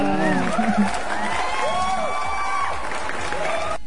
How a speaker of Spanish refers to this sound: Un aplauso.